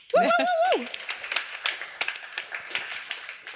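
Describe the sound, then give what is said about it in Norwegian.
A short whooping vocal cheer opens into small applause: a few hands clapping in quick, uneven bursts for about three seconds, moderately loud and tapering slightly toward the end. “Nei, liten applaus for det.”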